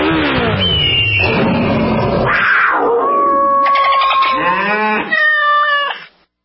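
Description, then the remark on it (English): A sound effects performer in a Progressive motorcycle insurance radio ad imitates riding a motorcycle on the open road with his voice, with loud buzzing, pitched drones that rise, fall and rev through several gear-like swells before cutting off abruptly. No words are spoken. “A feeling that would be impossible to recreate on the radio. Until now. Hit it, sound effects guy!”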